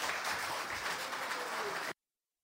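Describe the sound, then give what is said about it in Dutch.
Steady applause from an audience in a Latem council meeting, dense overlapping clapping at an even level for about two seconds before cutting off abruptly into silence. “Het applaus was luid en duidelijk.”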